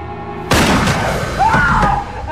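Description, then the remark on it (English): A single loud shotgun blast, aimed at a lump under bed covers, bursts in after a low, steady hum. Its harsh, full roar lingers and slowly decays, with a thin ringing whine rising in the tail. “Entering the room, he aims the shotgun at a lump under the bed covers.”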